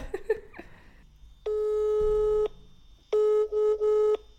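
A phone call's ringing tone: two long, steady electronic beeps separated by a pause, the second flickering briefly, preceded by a few short clicks and blips. There is no talking.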